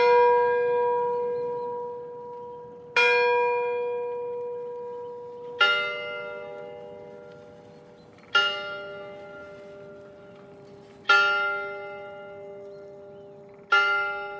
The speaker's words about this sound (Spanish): Sonaron las primeras campanadas de la medianoche en la torre de la iglesia del pueblo cuando la pareja se dio el primer beso.